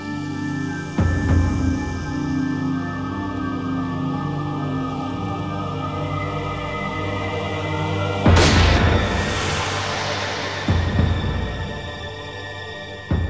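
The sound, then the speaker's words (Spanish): One loud, sharp gunshot, a single shot to a man's head as he walks through a field to hunt, cracks out midway and rings off in a lingering echo, set against a steady low droning ambience. No one speaks. “Loring fue asesinado de un solo disparo en la cabeza.”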